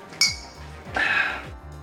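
Glasses clink together in a bright, ringing chime near the start, followed by a second, longer shimmering clink about a second later, over a faint low background hum.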